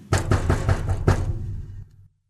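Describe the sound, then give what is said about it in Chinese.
Five or six hard, rapid, loud knocks on a door, with a brief pause before the final blow, then the sound fades into silence; a rabbit angrily knocking hard on the door of the squirrel's home. “它气呼呼地跑到松鼠家，用力地敲门。”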